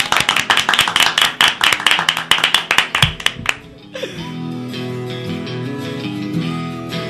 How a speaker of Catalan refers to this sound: Va, un aplaudiment.